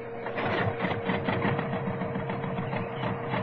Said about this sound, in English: Start up tractor motor!